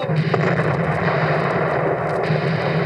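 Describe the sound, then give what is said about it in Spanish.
Naval cannon fire rumbles as a dense, continuous roar, heavy booms blurring together into a loud, steady battle din with no voices, as the American frigate Constitution fights the British warship Guerriere at sea southeast of Boston on 19 August. “¡Los alcanzamos de nuevo!”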